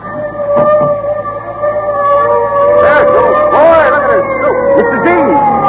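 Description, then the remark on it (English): A fire engine siren wails steadily, then breaks into rising and falling whoops, loud against a murmur of crowd chatter and background voices. “Listen. The fire engine.”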